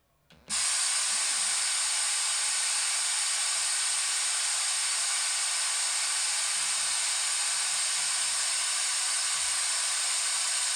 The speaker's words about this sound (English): Now here's white noise.